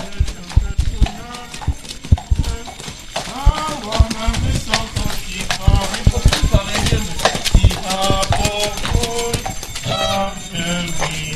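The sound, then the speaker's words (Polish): Hooves of a horse-drawn carriage (bryczka) bringing the Three Kings clip-clop in an irregular rhythm, sharp knocks mixed with a busy crowd of voices talking throughout, the hoofbeats moderately loud over the chatter. “A teraz ze względu na sytuację, jaka jest, pierwszy raz przyjadą do nas Trzej Królowie na bryczce.”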